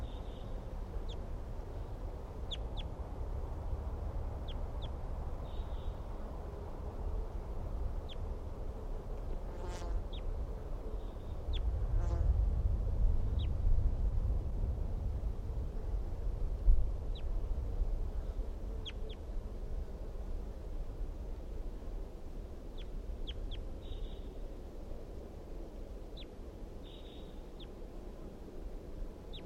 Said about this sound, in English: Wild birds calling very softly from a dead pine tree near the net area.